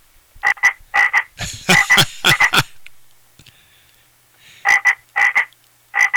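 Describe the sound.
A frog, called the Christmas frog, croaks loudly in rapid, raspy bursts of several pulses each, with short quiet gaps between the clusters and no talking, heard outside on a morning during Christmas week.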